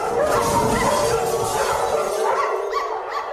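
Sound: dogs barking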